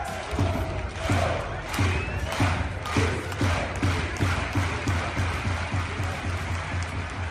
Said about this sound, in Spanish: El sonido es de otra afición. La de Unionistas, Charlie. A pesar de la derrota, los más de 2.000 que se desplazaron a Zamora despidieron a su equipo con esta ovación.